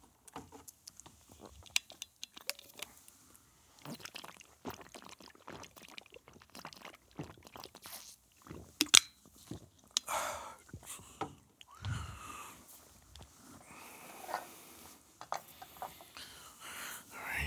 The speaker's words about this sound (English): Just take a breath. Take a sip of water.